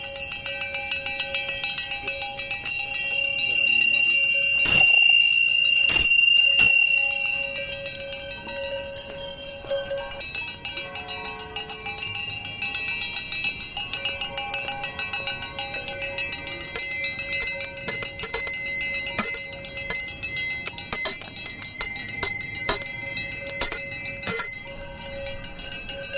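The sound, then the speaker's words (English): Many small bells ring together in a dense, shimmering wash, with sharp louder strikes standing out now and then over the continuous jingling, no voices present; bells rung at an Extinction Rebellion climate gathering in the Boulder area, joined by churches and the Shambhala community. “several other churches in the Boulder area have been involved, and there'll be bells ringing, and we'll be ringing here, and many of us are also sitting and just bearing witness and representing our love for the Earth.”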